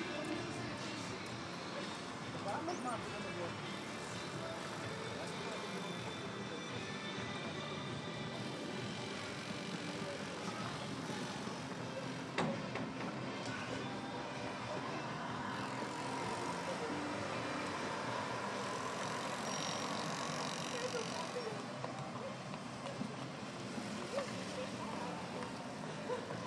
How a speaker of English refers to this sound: And some sounds of the city from upstairs at the venue. We have now set up and I'm leaning out a window. Just people watching and listening.